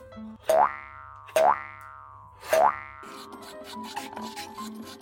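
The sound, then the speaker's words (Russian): Three sharp, springy metallic twangs with falling ringing tones, then a steady scraping and rasping as scoops are dragged through melon frozen in a freezer for 1.5 hours, with no talking. “Как-то это некрасиво выкладывают шарик.”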